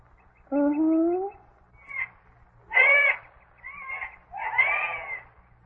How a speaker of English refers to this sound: That's a jay. Not my kind of bird. Oh, how screechy. That's the only singing he can do. I wouldn't care to be a jay.